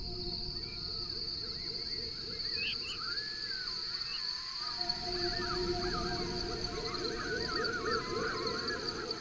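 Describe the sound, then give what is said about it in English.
Faint, slurred veery night flight calls drift down, scattered and irregular, over a steady high drone of night insects and a low rumble of background noise. “Night flight calls of the veery.”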